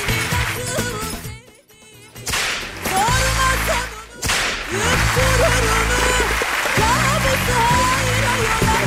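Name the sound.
whip crack sound effect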